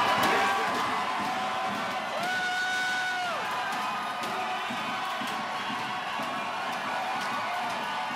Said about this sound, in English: Right. So this is a video, by the way, of a crowd rushing into the Wisconsin Capitol doors.